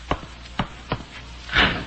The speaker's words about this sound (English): Why do you bolt the door?